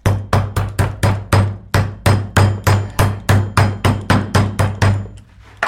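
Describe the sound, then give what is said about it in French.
A meat mallet pounds meat to tenderize it in a steady, rapid series of about seventeen loud thuds, each strike a heavy whack with a short ring, continuing without pause and with no talking. “Vous avez attendri la viande à grands coups de marteau.”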